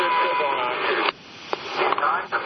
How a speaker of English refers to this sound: So I am approaching the Metro Center. It's about 2:30, a little bit before. And you can hear the sounds of the Metro speakers.